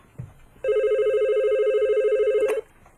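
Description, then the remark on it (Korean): A telephone rings with a steady electronic trill lasting about two seconds, loud, then cuts off abruptly. Brief low background noise comes before and after. “여보세요. 예, 전화 바꿨습니다.”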